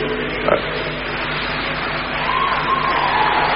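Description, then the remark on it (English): A crowd claps steadily for the engineers, the applause blending into a dense, continuous wash that holds at an even level, with a raised voice or cheer cutting through toward the end. “They were clapping for the engineers, not for me.”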